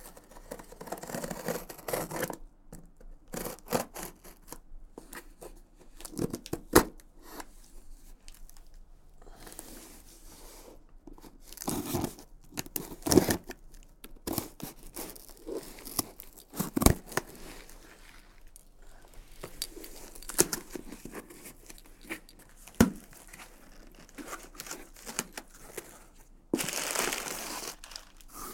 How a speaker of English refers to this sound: There's a pair of scissors on the table there. Go ahead and unbox this carefully whenever you're ready.